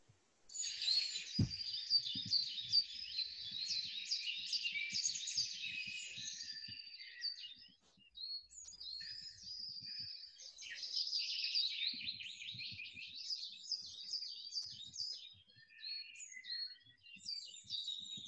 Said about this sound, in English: And you enjoy this relaxation as you listen to the bird song around.